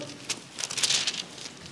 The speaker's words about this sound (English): Let's go there quickly. Revelation 6 and verses 9 through 11. Love to hear those Bibles turning pages.